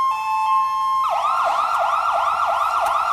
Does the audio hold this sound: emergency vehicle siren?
yes